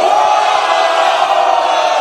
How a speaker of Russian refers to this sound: Ребятки, дайте шума!